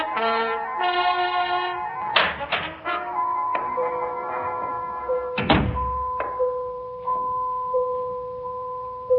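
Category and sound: household object, door opening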